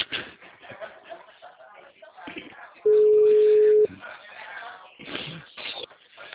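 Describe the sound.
A telephone ringing tone sounds once: a steady, low-pitched electronic beep lasting about a second, loud and clear, between stretches of muffled talking voices.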